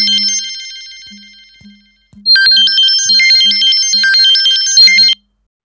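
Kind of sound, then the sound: signal or alarm, telephone ringing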